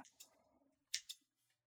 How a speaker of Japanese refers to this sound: ハサミの手つき上手でしょ。